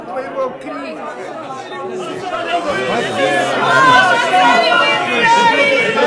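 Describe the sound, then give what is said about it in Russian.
Bustling crowd chatter of lively trading in the temple in Jerusalem, where money is changed and doves are sold for sacrifice: a dense, steady blend of many overlapping voices with no single speaker standing out, swelling slightly louder through the second half. “В храме же шла бойкая торговля. Там меняли деньги и продавали голубей для жертвоприношения.”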